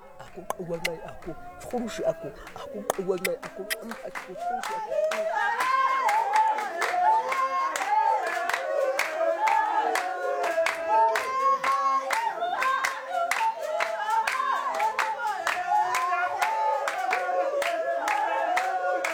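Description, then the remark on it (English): A seated group claps steadily in a brisk, even rhythm while several voices sing together in a chant-like melody for a dance performed at home, with men dancing around them in circles and joining the singing, growing fuller and louder after the first few seconds. “When we perform the dance at home, we usually sit in the center, singing and clapping, and the men dance around us in circles and joining in the singing.”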